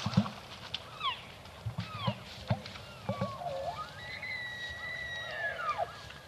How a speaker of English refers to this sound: It's still dark, but we can hear elk on all three sides of us slowly getting closer.